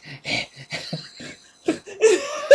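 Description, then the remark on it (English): A voice imitates the raspy, wheezing breathing of the creepy little kid from the movie Orphanage, a series of short ragged inhales and exhales, then breaks into a laugh near the end; fairly loud, with no words spoken. “When we saw Orphanage, and then we were laying in bed at night, and you were just doing that breathing that little kid does, where you're like...”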